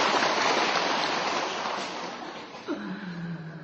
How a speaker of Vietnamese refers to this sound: Xin một tràng pháo tay tặng cho bà cụ.